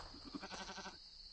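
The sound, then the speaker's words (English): A single goat bleat, fairly loud, with a quavering, wobbling tone lasting about a second before fading into near silence. “He thought he heard a bleat. A sarcastic bleat? From the poet's goat.”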